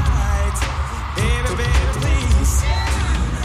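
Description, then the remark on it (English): A huge stadium crowd at the L.A. Coliseum roars and cheers wildly as a band goes on stage, a dense continuous wash of noise with scattered yells and whoops rising above it, loud throughout with no talking. “And now, he's watching as the crowd at the L.A. Coliseum go off.”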